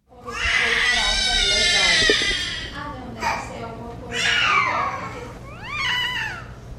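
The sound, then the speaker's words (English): A newborn baby with severe microcephaly in Brazil cries plaintively: one long, high, wavering wail, then three shorter whimpering cries with pauses between. The crying is fairly loud and stands alone, with no talking. “And these newborns have a distinctive plaintive cry.”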